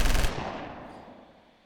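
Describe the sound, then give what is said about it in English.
A loud burst of rapid gunfire, like a machine gun, fires in quick succession for about a quarter second, then a long rumbling echo fades away with no voices. “Just make sure that the gunfire is not in that direction, okay?”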